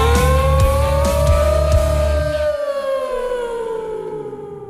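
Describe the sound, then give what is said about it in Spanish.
A voice imitates a passing car with a sustained droning, engine-like hum over a rumbling low buzz, holding steady and then sliding down in pitch and fading out over a few seconds. “… hacía un coche, ¿vale? Pasando. Es que se supone que es un coche, no suena coche.”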